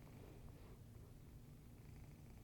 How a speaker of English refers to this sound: Just see him in the background purring.